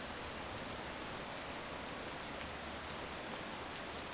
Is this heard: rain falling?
yes